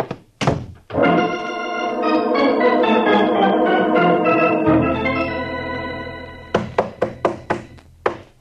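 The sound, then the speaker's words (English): A couple of heavy thumps, then a long sustained musical chord, followed by a rapid series of about seven loud, hollow bangs of a sergeant pounding with his knuckles on a locked door. No one speaks. “Are you coming on that door, Sergeant? Ain't made a dent in it yet.”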